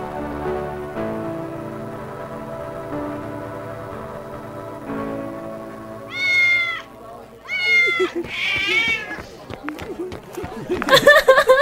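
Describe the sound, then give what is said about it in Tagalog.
A cat meows three times in quick succession, drawn-out, after a stretch of steady sustained tones, then a short burst of noisy commotion at the end. The cat is loose in a campus building lobby, with paper tape attached to its tail. “Pusa! May nakawalang pusa dito sa AS lobby.”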